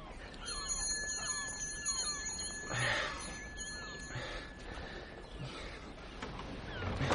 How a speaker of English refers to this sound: Do I knock double or single? Neither. There's a bell.